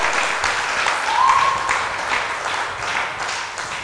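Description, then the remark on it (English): A church audience claps steadily and loudly for several seconds as a clap offering, a dense crackling wash of many hands, with a brief rising whoop of cheering lifting above it partway through. “If I have witnesses here, let your shout be good and let your clap offering be amazing.”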